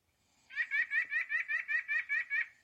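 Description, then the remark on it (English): A white-breasted nuthatch, in a recording from the iBird Pro app, gives a rapid run of about ten nasal, evenly spaced notes, a steady repeated wah-wah-wah with no pauses, fairly loud and alone. “Their call is rather distinctive and is sometimes described as a nasal, rapid, repetitive wah-wah-wah or a yank-yank-yank.”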